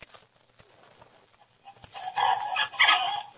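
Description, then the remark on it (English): Chickens cluck and squawk in a farmyard, starting quietly and swelling into a louder, busy burst of several birds calling over the last second and a half, with no voices. “I'll go feed the chickens.”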